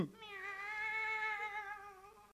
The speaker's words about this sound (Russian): Под Шайблями живет художник Берингер. Вы слышите? Это его кошка Аглая.